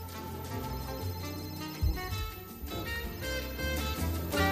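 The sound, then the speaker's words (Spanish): A mobile phone rings with a steady, melodic ringtone, bright sustained tones repeating at an even loudness for several seconds, with no voices over it. “hay un móvil aquí que es uno de los sonidos del día y no sé a quién puede pertenecer, pero la está liando.”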